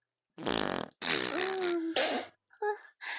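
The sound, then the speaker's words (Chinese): A loud run of sputtering farts in five bursts while someone defecates, the second long and drawn out with a buzzing, wavering tone, followed by shorter, quieter puffs. No one speaks. “不好意思啊，没忍住就拉出来了。”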